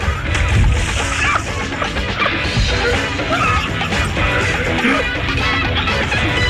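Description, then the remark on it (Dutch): A big, messy splash as an April fish (aprilvis) falls into the water, followed by loud churning and sloshing that stays dense for several seconds, with clattering crashes mixed in. “Onze aprilvis valt in het water.”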